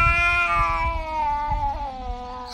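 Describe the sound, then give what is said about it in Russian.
A cat lets out a long, drawn-out squealing whine, fairly loud, its pitch sagging slightly toward the end, with soft low rumbling and shuffling noise underneath. “Если кошку закрыть в комнате, на полу которой разбросаны шарики, то издаваемые этой кошкой писк и виск сполна охарактеризовали бы русскую речь.”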